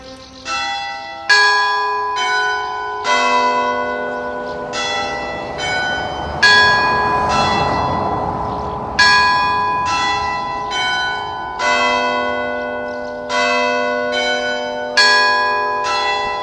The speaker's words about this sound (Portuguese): Quando os sinos da Igreja de São Roque testemunharem amanhã mais uma semana de desconfinamento, será como um repicar, um tocar festivo, um convite para o outro lado da rua de São Pedro de Alcântara.